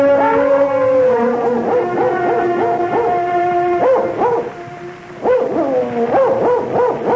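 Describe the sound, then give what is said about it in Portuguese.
A dog, just brought in to track someone by the scent of a piece of clothing, whimpers and yips almost continuously, high whining tones rising and falling in quick repeated bursts, with a brief lull before the excited cries resume. “Vai fazer agora que o cachorro chegou, inspetor?”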